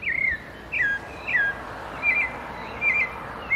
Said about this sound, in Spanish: Bien, este es el yigüirro, ave nacional de Costa Rica. Se le conoce también como cenzontle o mirlo pardo.